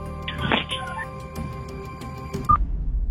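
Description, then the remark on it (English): A phone call is hung up by the other party: a muffled rustle and clatter, then a short, sharp electronic beep near the end, followed by the dull hiss of a dead connection. No one speaks. “Oh, he just hung up.”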